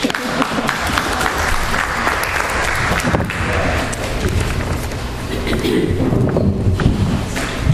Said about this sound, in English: Applause.